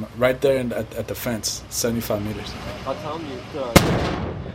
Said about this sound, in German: sei outgoing, Abschüsse der US-Artillerie. Incoming sei, wenn die Taliban die Basis beschießen.